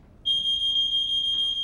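A smoke alarm sounds abruptly, a loud, piercing high-pitched tone that holds steady without a break for over a second over faint low background noise.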